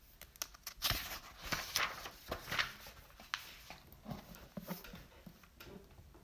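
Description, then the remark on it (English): Soft papery rustling and crisp little flicks as a book page is turned while a passage is being read aloud, quiet, with a few brisk swishes spread over several seconds and no talking. “hold on, flipping the page.”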